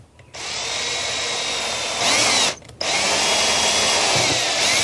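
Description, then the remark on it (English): A power drill whirs loudly and steadily as it bores a pilot hole down into a plastic part held in a vise, briefly stopping for a moment before spinning up again and running to the end; no one speaks. “Okay, so I'm gonna stick this thing in a vise and drill down into the plastic thing that's holding it.”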